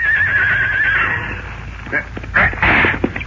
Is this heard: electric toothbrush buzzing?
no